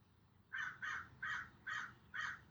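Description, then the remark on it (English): A crow caws five times in a steady, evenly spaced series, each harsh call clear and moderately loud over a low, quiet background rumble. “With each caw of the crow, you relax just a little bit more.”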